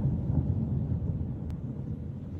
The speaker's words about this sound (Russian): Момент взрыва на подстанции в Старом Осколе попал на видео. Взрыв произошел около 2 часов ночи.